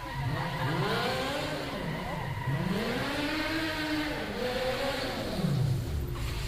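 A car engine revs hard in several rising and falling surges, loud, as the vehicle drives in down a camera alley over a steady background of noise.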